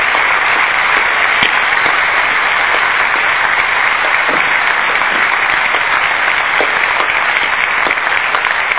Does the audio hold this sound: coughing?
no